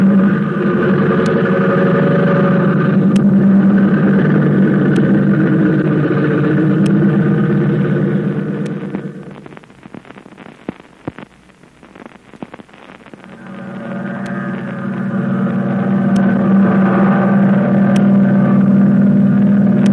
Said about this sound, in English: American plane with Flip Corkin at the controls is streaking through the sky toward Yokohama